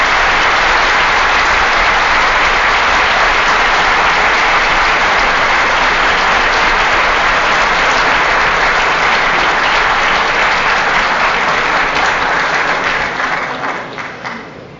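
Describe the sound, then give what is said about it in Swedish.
Loud, sustained applause from a large audience in Stockholm, dense and continuous clapping filling the space for about thirteen seconds before beginning to taper off at the end. “Om jag säger att det är mycket sällsynt att någon ifrån de provinserna får så kraftiga applåder i Stockholm, så är det inte adresserat till någon speciell,”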